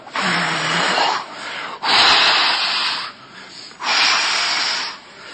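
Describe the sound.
People blow and hiss through their mouths to imitate wind, trying to make a storm, making three long, rushing whooshes that swell and fade with short pauses between them. No one speaks.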